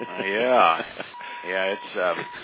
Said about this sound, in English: I hope that I'm the only one that hears the Morse code playing in the background, but it certainly is an interesting... I'm hearing it over this way.